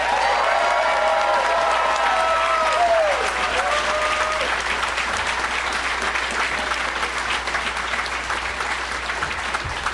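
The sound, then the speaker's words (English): A crowd claps steadily and loudly to welcome three guests onto a show, with whoops and cheers riding over the applause in the first few seconds before it settles into dense, even clapping. “Let's give a big warm welcome to...”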